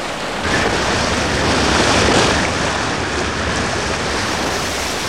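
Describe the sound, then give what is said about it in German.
A steady, loud roar of surf and wind, with a motorboat's noise blended into the crashing waves as it reaches the beach. No voices, just the continuous wash of water. “Als das Motorboot den Strand erreichte, hielt Bob die Metallkassette bereits in der Hand.”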